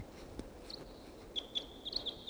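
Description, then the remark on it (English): A single wild bird calls, giving a thin, high steady whistle with a few sharper chirps, over a quiet outdoor background with no talking; the bird sits in trees above a net. “Single wild bird here.”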